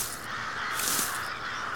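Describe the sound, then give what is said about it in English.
Harsh crow caws fill the air, several birds calling over one another in a steady, raucous chorus with no one speaking. “Now that I think about it, were all of these crows here before?”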